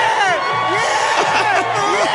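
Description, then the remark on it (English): A stadium crowd roars and cheers in a loud, continuous wall of sound, with scattered high whoops and shouts rising over the dense, sustained din. “Here, let's listen to the roar when he puts it down.”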